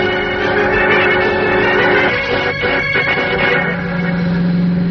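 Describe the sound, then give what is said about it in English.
A car drives along the main highway at steady speed, its engine droning and road noise rushing continuously for several seconds, with a faint tonal hum running underneath and no voices. “Driving on the main highway, that's not safe, Mr.”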